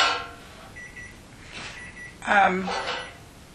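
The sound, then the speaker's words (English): Bread coming out of an oven: a faint electronic beep, then a short metallic clatter and rattle of a pan being pulled out. “Marge is taking her bread out at this time, so there'll be a slight”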